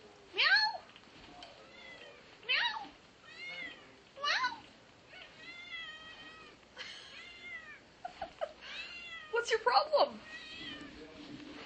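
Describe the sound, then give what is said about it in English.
A cat meows over and over, several loud, rising calls spaced a couple of seconds apart, with softer meows and faint murmuring mixed in toward the end. “Aw, what are you meowing for?”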